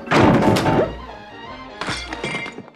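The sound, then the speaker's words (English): A heavy, crunching crash of a falling tree hitting the ground, with splintering crackle, then a second, slightly softer crash about a second later. Loud, with no voices. “Timber!”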